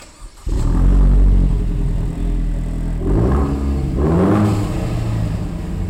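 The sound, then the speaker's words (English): The engine of a Vanderhall three-wheeled autocycle roadster, built in Utah, starts up and rumbles loudly, revving in several rising bursts with a throaty, mid-pitched growl and no voices. “Vanderhalls look like a hybrid between a car and a motorcycle, the three-wheeled roadsters compared to models like the Polaris Slingshot.”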